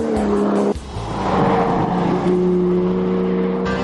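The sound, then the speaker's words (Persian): A 2013 Porsche 911 Carrera C4 engine revs loudly, a steady throaty drone with a brief dip in pitch before it climbs and holds, with no voices. “با شغلی که ما داریم اکثرا از ما سوال میشه چه اتومبیلی رو دوست دارید داشته باشید، در حالی که جواب این سوال با گذشت زمان و آمدن اتومبیل های جدید مرتبا تغییر میکنه، ولی اکنون جواب ما به این سوال پورش سری 911 و بدون تردید پورش 911 کاررا C4 سال 2013 است.”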